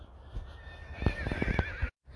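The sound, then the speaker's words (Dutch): A horse in a meadow whinnies loudly, a wavering high neigh lasting about a second with shaky pulses, ending abruptly; faint outdoor background noise, no talking. “En ik loop langs een weiland, staan paarden.”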